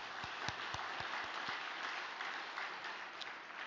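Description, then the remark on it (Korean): A crowd applauds steadily in thanks, dense overlapping claps filling the whole stretch with a few sharper individual claps standing out near the start; no voices are heard. “감사의 박수를 올려드리겠습니다.”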